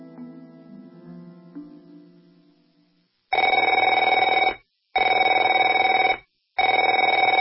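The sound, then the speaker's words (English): A telephone rings loudly in three long, even bursts separated by short pauses, a bright buzzing bell tone, following a brief stretch of quieter tonal music that fades out. “Afraid to answer it?”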